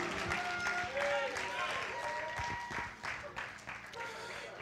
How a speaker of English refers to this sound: Give God a hand clap of praise in this house.